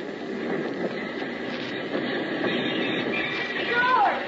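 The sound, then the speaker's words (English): A work train rolls into a station in La Paz with a steady, dense rumble, and a brief high-pitched brake squeal rises near the end. A faint murmur of voices sits underneath. “it's a mighty pleasant feeling when you step out of the bullet-riddled plane on solid ground and when, a couple of days later, you jump off the work train back in La Paz.”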